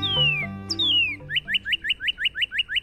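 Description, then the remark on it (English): A northern cardinal sings clearly: two long, sliding down-slurred whistles, then a quick, even series of about ten bright rising chirps, with no voices. “Author and illustrator Becca Rowland likes to keep an eye out for cardinals.”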